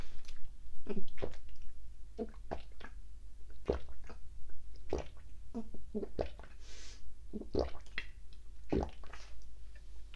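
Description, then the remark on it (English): Wet gulping and swallowing sounds repeat irregularly, someone drinking a whole bottle of water in quick successive swallows, with small squishy clicks between them and no talking. “Oh, we did it. A whole bottle.”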